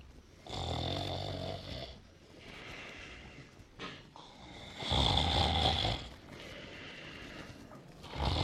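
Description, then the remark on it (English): A man snores loudly, sound asleep just before his 5 a.m. alarm goes off: two long rasping breaths drawn in between quieter exhales, the second snore louder and harsher than the first. “And now as we look in, … is sound asleep, and it's almost time for the alarm to go off.”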